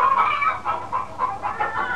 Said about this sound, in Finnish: Ettäkö minä kotkotain kuin kanat?